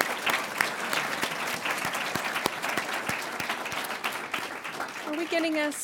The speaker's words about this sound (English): So please, one more round of applause for our panel and our speakers.